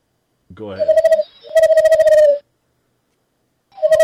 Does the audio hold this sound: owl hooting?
yes